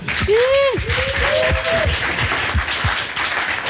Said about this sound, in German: Einen Applaus bitte.